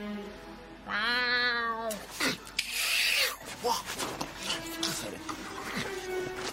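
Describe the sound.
A man hiding behind a window imitates a cat with one drawn-out, fairly loud meow, followed by clattering and rustling noises as a window is shut with a thud and shuffling sounds continue.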